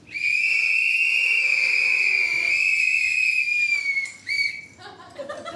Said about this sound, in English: So please whistle if you have ever used a sex toy.